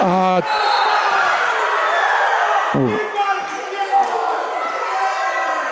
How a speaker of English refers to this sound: you can hear some of the crowd screaming.